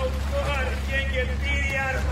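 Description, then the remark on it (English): A motorboat engine drones steadily and loudly while pulling a water-skier up, its low rumble constant throughout, with muffled voices rising briefly over the noise. “Just lean back and let the boat pull you up.”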